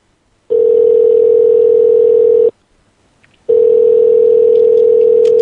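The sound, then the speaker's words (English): A loud, steady telephone tone sounds twice as a call is placed, each lasting about two seconds with a brief silent gap between, a flat electronic hum with no voices. “We're going to call.”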